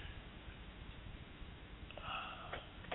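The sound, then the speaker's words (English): A female dog roaming around a room pants in quick, breathy bursts that keep a steady rhythm throughout. The sound is fairly quiet, with no one talking over it. “Probably can hear her panting.”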